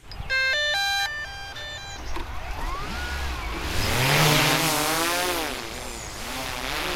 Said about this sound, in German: kommt vor dem Traktor erstmal die Drohne. Sie sucht mit einer Wärmebildkamera nach Rehkitzen im Gras.